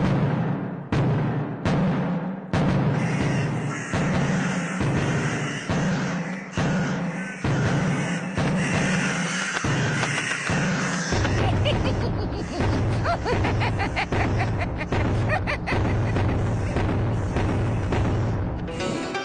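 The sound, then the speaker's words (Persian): Loud, booming drum beats strike in a steady, repeated rhythm, forceful, then quicken into a denser rolling pattern over a low sustained rumble. No voices. An old woman beats the drum on her farm to scare off pest birds, crows. “بله، پیرزن موفق شد تا با این روش و با صدای طبل پرنده های مزاحم رو فراری بده.”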